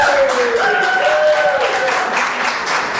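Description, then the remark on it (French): A crowd at a city council meeting in Trois-Rivières applauds steadily and loudly while voices boo over the clapping, their drawn-out jeers sliding downward in pitch throughout, as the mayor returns after six months off work. “Le maire de Trois-Rivières qui était de retour après 6 mois d'arrêt de travail, il a été accueilli autant par des applaudissements que des huées hier.”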